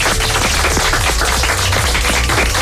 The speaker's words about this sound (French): À vous. On peut les applaudir. Bravo.